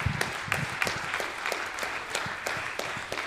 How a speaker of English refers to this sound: Would you give them a round of applause, please?